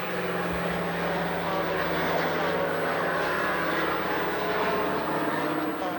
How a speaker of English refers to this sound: Wait a minute, plane flies over.